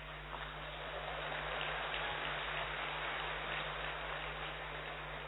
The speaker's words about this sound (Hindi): इसीलिए ताली बजा रहे हैं, क्योंकि वो बोलते हैं आज तक कभी डरे नहीं हम, अब आकाश से डर जाएंगे।